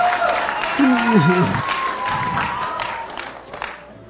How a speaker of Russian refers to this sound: Вот он хлопает.